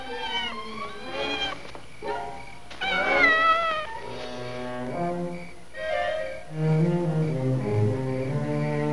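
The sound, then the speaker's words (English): A cat named Puff Puff, stuck way up in a tree, meows over and over, a string of plaintive, drawn-out cries that slide in pitch, the later ones lower and more wailing, with no talking. “Cats know how to climb way up in trees, but then they're afraid to climb down.”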